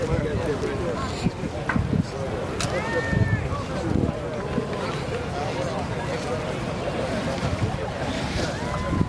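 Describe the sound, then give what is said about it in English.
Busy outdoor waterfront ambience at Pearl Harbor, Hawaii, on a sunny day before a boat tour, with a boat engine rumbling, water sloshing and gusts of wind buffeting the microphone, while people talk throughout. “I'm here at Pearl Harbor, about to go on a boat tour.”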